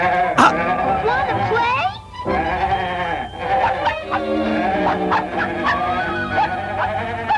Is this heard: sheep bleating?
yes